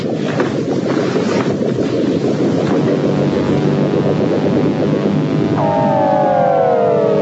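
A loud, steady motorcycle engine roars throughout as the bike rides off, with a whining tone sliding in near the end; no voices are heard.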